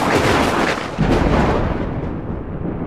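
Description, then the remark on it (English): A loud, continuous roll of thunder from the most intense burst of lightning yet, all around at once in a worsening storm, rumbles for three seconds, with a brief dip before a fresh crack bursts in and the deep rumbling carries on. No voices are heard. “Just then there was the most intense burst of lightning yet, all around us, all at once.”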